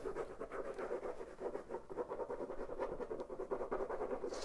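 A dog named Eda at a door, wanting to go out, scratching and panting in a steady, rapid rustling rhythm that runs throughout at a low, even level, with no clear whine standing out; no one speaks.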